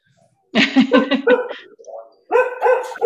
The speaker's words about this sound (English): That needs to be transcribed. Cow dog barking, we'll say on the transcript.